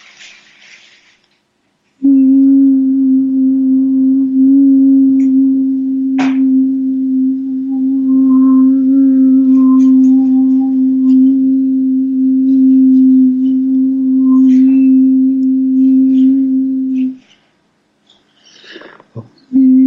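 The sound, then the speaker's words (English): A single voice holds one long, steady elongated vowel tone for about fifteen seconds, strong with an even pitch, then it breaks off. A brief breath follows, and there is no talking. “So choose any vowel and do it elongated.”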